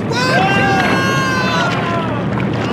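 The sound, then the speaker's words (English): Strong wind roars steadily over a stormy sea during a storm, heard from a rowing boat, waves rushing in a loud, unbroken wash, with a voice faintly audible beneath the din. “Oh, listen to that wind. I've never heard it so strong before.”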